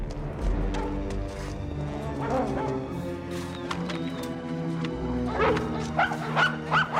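dog barking

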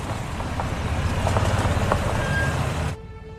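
car pulling up outside

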